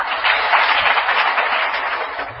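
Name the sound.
audience clapping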